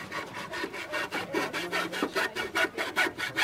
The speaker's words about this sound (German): Also wurde auch ein Dach aus Holzlatten und Plane gesägt und geschraubt.